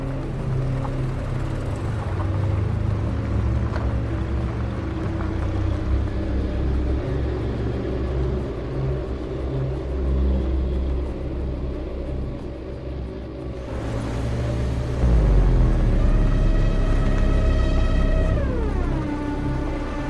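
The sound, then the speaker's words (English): A car with its headlights on drives down a lonely country road at night with a steady, loud low engine rumble. Toward the end the engine note swells and then glides down in pitch. No voices. “The car moves down a lonely country road.”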